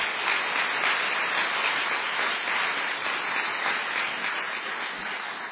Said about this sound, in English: So I would ask for your round of applause for both of our contestants, thanking them this evening.